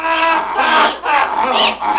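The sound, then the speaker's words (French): A donkey brays loudly, its harsh, rasping hee-haw rising and falling in several rhythmic cycles with brief breaks between them. “Ils seront tous transformés en ânes.”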